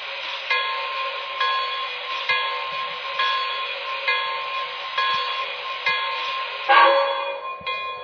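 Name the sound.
passenger train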